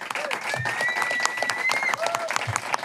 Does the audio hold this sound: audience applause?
yes